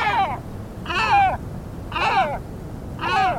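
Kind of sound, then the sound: bird, great black-backed gull calls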